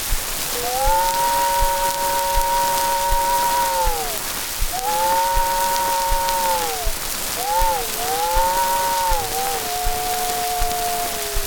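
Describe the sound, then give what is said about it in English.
A voice imitates an old train whistle heard about a quarter mile down the track, without any mechanical device: three sustained, mid-pitched hoots, each sliding downward as it fades. The last breaks into a short dip before holding, all over a steady rain-like hiss. “No, I missed the train and got down there just in time to hear the old whistle about a quarter mile down the track. Something like this.”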